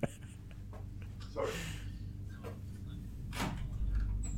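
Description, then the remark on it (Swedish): A hotel room door being opened for room cleaning staff, with a couple of short scraping, rustling bursts from the handle and latch over a steady low room hum. “Nu knackar det på dörren här, det är någon städning.”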